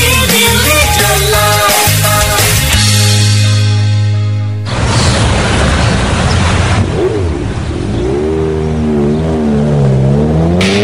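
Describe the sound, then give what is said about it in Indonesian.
A 150cc motorcycle engine revs loudly, its pitch climbing and dropping in repeated bursts, then breaks into a rough full-throttle roar before winding up again. No one speaks. “Bayangkan tenaga mesin 150cc yang powerful berpadu dengan desain motor yang sangat tangguh.”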